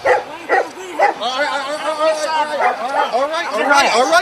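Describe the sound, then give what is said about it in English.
German Shepherd dogs bark in a rapid, continuous burst of overlapping yips and whining barks, loud and agitated throughout. “Oh, they're so tough with the German Shepherd, just like Nazi Germany.”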